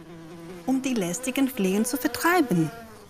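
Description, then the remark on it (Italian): A voice imitates the buzzing of flies, a loud, wavering hum that slides up and down in pitch in short bursts for about two and a half seconds. “Prima di svegliarsi, aveva colpito continuamente il braccio e il piede, si era grattato la testa e aveva scrollato tutto il suo corpo per allontanare le mosche fastidiose.”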